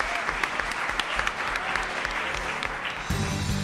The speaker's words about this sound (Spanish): Un aplauso para la maestra María Dolores Marco. Sí, señor.